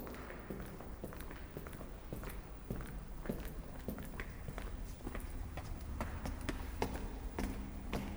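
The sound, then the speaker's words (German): Steady footsteps of someone walking through a brown door toward the president's office, at an even pace, each step a crisp tap roughly twice a second, moderately loud over a constant low background hum. No one speaks. “Geh nun durch die braune Tür.”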